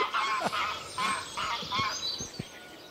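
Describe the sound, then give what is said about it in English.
Canada geese honk repeatedly in a noisy, overlapping chorus, several birds calling in quick succession in a wood, with an outdoor woodland ambience behind them. “Well, it sounds like we've got Canada geese in our wood.”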